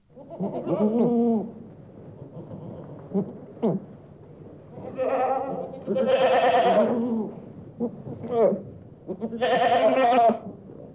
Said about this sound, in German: Ziegenmelken.